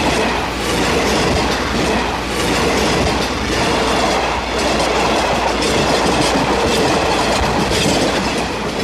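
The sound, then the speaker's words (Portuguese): A train rumbles steadily along the rails, a dense, loud roar with rhythmic clickety-clack of wheels over track joints and faint metallic squeals, continuing throughout without any voices. “Você poderia ter me deixado embaixo daquele trem?”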